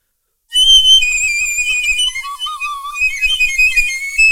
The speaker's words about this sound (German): Tausend Geschwader von Klarinetten knallten auf die Trötenfrisur drauf.